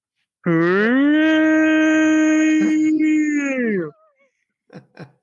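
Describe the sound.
A person imitates a tornado siren with one long, loud, rich wailing tone that swells up, holds steady for about three seconds, then slides down and fades, followed by a couple of short noises.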